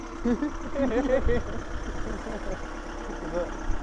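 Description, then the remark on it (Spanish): An old diesel car engine idles with a steady, low, rough rumble throughout, while people talk over it during the first second and a half. “Sí, huele a diésel. En diésel, diésel. Este coche es más viejo.”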